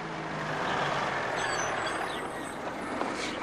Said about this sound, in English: Charles's motor car draws up outside a shop.